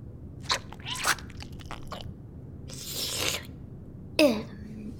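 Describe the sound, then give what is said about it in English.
Wet mouth noises of glue being slurped off a fingertip: a few quick slurping and smacking bursts with short pauses between them and one sharper smack near the end. “Just dip your finger in and slurp it off.”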